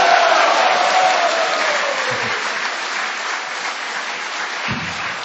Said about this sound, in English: So you give a big round of applause to signify your blessings to her.